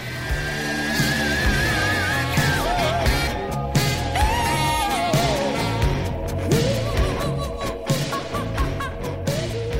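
Dense, loud rock music with heavy distorted guitar and wailing, bending high vocal cries riding on top, playing steadily and up close for the whole stretch.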